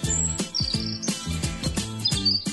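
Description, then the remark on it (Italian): Cartoon bird chirping sound effect: a quick run of bright, whistly tweets with sliding pitches, repeating steadily for a couple of seconds, fairly loud, with no one talking. “Ho scoperto che l'uccellino di Twitter si chiama Larry.”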